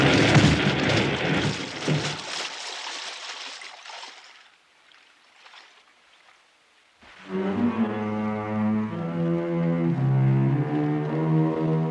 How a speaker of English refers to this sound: the shock of crashing into us must have wedged him into his boat.